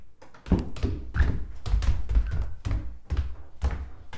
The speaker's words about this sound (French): Je vais sortir. Le bruit de la porte. Là, vous entendez mes pas.